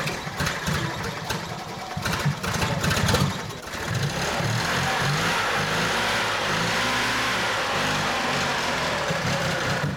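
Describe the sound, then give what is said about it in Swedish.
An old car engine revs, with rough bursts of acceleration early on before settling into a steady, throaty running drone. No voices are heard. “Motorljudet är musik för bilentusiaster.”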